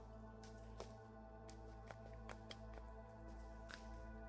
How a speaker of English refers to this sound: Let me pour some more of this cocoa butter onto your thighs.